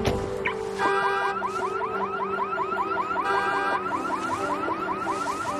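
vehicle, car alarm going off

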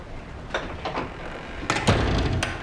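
household object, front door opening

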